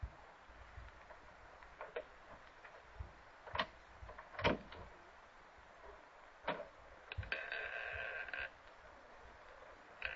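A bedroom door is kicked open: several sharp thuds and knocks over about ten seconds, the loudest near the middle, followed by a short grinding scrape, with no talking.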